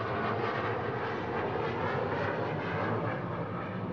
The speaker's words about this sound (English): Now, when the wind is coming from this direction, we get the planes because the airport is right over here, and they come right down low over the stadium. And it's marvelous sound effects for preaching.